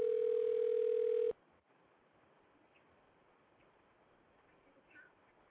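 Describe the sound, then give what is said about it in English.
A loud, steady electronic telephone dial tone after a caller hung up the phone, humming at one pitch for just over a second, then cutting off abruptly, leaving only faint background hiss with no voices. “Nigga hung up on himself.”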